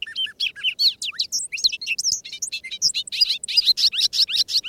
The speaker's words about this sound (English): The bobolink may just be the happiest bird of spring. There's such delight in the bobolink's bubbly, jangling song.